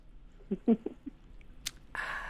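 Moist chewing of a bite of steak: four or five soft, squishy mouthfuls in quick succession, followed by a brief click and a breathy rush of noise at the end. No one speaks.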